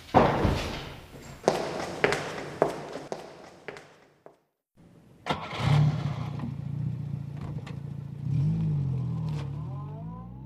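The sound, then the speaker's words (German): A series of sharp thuds and footsteps, then a car door slams shut, and an engine starts with a low, steady drone as the car pulls away and drives off. “Die Konradigasse erreichte ich bereits nach 10 Minuten Fahrt. Ich parkte mein Auto auf der gegenüberliegenden Straßenseite des Hauses.”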